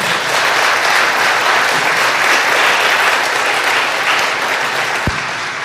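An audience applauds steadily to thank and honor a pastor, a dense wash of many hands clapping at an even, loud level throughout, with one sharper pop near the end.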